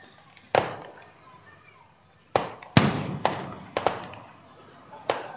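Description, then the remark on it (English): Diwali fireworks explode outdoors in a string of about six sharp, booming bangs at irregular intervals, each leaving a brief echoing tail over a faint background murmur. “It's interesting how people in India celebrate Diwali with so many fireworks.”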